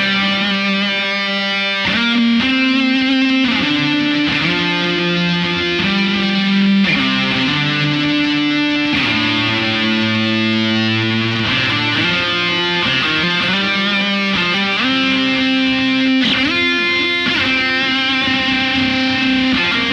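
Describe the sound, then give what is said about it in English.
A heavily distorted electric guitar lead, played through three stacked drive effects with a halo effect turned on, holds long, singing notes that shift and bend between pitches, thick with effects and sustain, played loud and continuous with no talking. “Right, so it is nice and hissy, but if we do something like sustain a lead note, it sings. So we're going to turn on the halo and then add all three.”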